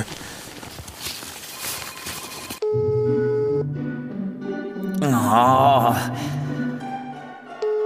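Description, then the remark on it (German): After a few seconds of shuffling, thumping footsteps, a mobile phone's melodic electronic ringtone starts up loud, with sustained tones and a brief warbling passage, as an incoming call arrives late. “Wer ruft mich denn so spät noch an? Wo ist denn jetzt wieder das Handy?”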